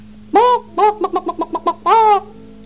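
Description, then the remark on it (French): A hen clucks: one drawn-out call, then a quick run of six short clucks, then another long call, loud and clear with no voices. “Et une petite poule rousse.”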